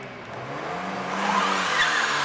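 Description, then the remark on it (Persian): A car engine revs hard and climbs in pitch, roaring louder toward the end, with a hint of tire squeal. No one speaks. “ترکنده موتورشو!”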